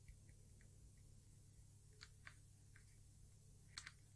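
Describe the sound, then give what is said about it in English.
Soft, irregular clacks of a Cherry Linear Grey mechanical keyboard switch being pressed a handful of times, quiet, over a steady low electrical hum. “And next one, I think I haven't mentioned Cherry Linear Grey, it's a special one here.”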